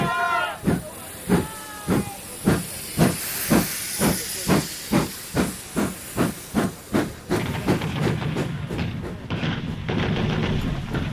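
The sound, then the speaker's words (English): A steam locomotive chuffs in loud, regular bursts of hissing steam that gradually quicken, then blur into a continuous rushing hiss as the train picks up speed. “They shout hurrah, wave their hats, and then the train accelerates. And the steam is everything.”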